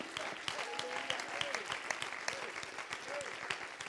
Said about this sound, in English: That's it. One more time. Clap your hands to Him today.